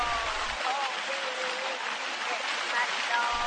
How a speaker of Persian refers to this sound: امامزاده در دل کوهستان قرار داره و آبشارای کوچیک زیادی در اطراف این دیده میشه.